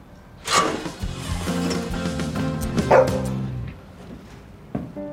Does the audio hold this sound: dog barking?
yes